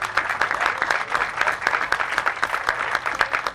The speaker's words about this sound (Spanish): Un aplauso para él.